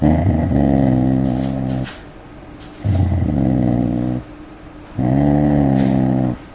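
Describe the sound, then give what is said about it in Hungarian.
A dog growls three times in long, low, rumbling bursts with short pauses between them, loud, with no one talking, as a stranger approaches it step by step, staring threateningly into its eyes. “Illetve volt egy olyan szituáció, ahol egy idegen ember fenyegetően meretten a kutya szemében nézve lépésről lépésre közeledett a kutyához, és ez váltott ki morgást az alanyokból.”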